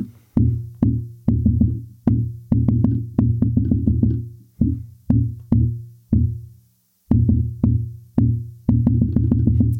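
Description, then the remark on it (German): Rapid knocking taps with no steady beat, bunching into quick runs and then spacing out with short pauses, imitating the chaotic irregular heartbeat of atrial fibrillation, partly fast and partly slow. Fairly loud, with no talking. “Vorhofflimmern ist die häufigste Erkrankung, ist komplettes Chaos. Unregelmäßig, teilweise schnell, teilweise langsam, hört sich ungefähr so an.”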